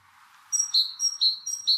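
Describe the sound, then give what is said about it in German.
A great tit sings a bright, metallic two-note phrase, repeating it rhythmically about three or four times in quick succession, fairly loud, with no voices. “Und wenn ich solche Klänge höre, habe ich es meist mit irgendwelchen Meisen zu tun oder mit dem Zipzap. Oder der Kohlmeise, ne?”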